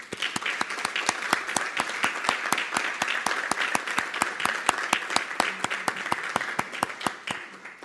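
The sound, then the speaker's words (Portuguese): An audience at a colloquium applauds steadily for several seconds in tribute to Dr. Armando Leandro, with dense overlapping hand claps forming a bright, crackling wash at even loudness and no voices. “justifico neste momento e nesta casa, e se a mesa me permite, uma salva de palmas para o Dr. Armando Leandro.”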